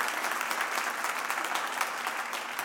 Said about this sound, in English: Yeah, give him another hand clap, guys.